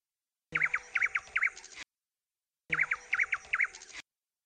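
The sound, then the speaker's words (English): A nightingale sings two identical short bursts, each made of three quick, bright warbled phrases over a faint noisy background, separated by a pause of silence. “And every evening the nightingale appeared at his window and sang its highest song to the emperor.”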